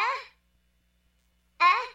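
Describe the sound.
Two short, gasping calls of the Tudlow, a warbling, voice-like mating call and cry for help, separated by about a second of silence. Each is fairly loud, fading at the end, and sounds like a person imitating the cry.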